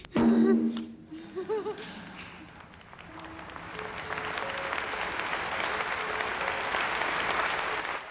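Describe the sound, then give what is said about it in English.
A concert audience breaks into enthusiastic applause and rises to its feet in a standing ovation, starting with a few high whoops and cheers, then swelling into dense, sustained clapping that grows louder and holds steady to the end. “Hilary, amongst the audience, smiles weakly, tears pricking her eyes, and looks around her as the audience rises to its feet in an ecstatic standing ovation.”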